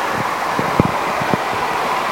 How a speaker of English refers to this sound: You can probably hear, I'm standing by the window. The window is open. And you can probably hear the constant traffic noise. And not a great deal of birdsong.